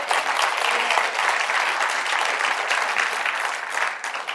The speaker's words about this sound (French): Combien qui l'ont vécu peuvent applaudir?